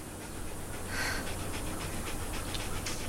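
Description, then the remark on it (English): A female dog that belonged to Bob Platt pants rapidly and steadily, quick breathy huffs repeating for a few seconds over a low, constant background rumble, with no talking. “It's Bob Platt's dog.”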